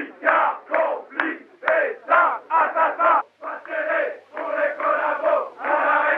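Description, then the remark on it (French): Dozens of anti-Pétain protesters massed outside the Antenne 2 offices before a broadcast shout in rhythmic bursts, chanting together in loud, repeated phrases with short pauses between them, the mass of voices blending into a steady roar. “30 minutes avant le début de l'émission, des dizaines de manifestants anti-pétainistes se massent devant les locaux d'Antenne 2.”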